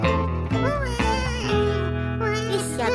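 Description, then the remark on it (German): A baby that has just woken up wails loudly and without pause, the cry rising and falling in pitch through a few strained, drawn-out sobs, with no other sounds around it. “Oh nein, jetzt ist es wieder wach geworden.”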